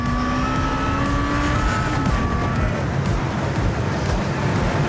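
A powerful red souped-up sports car engine roars at high revs as it speeds past at full throttle near the quays, driving dangerously through traffic, its whine dipping in pitch, over a constant loud wash of road and traffic noise.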